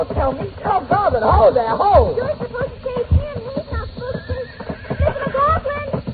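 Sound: horse neighing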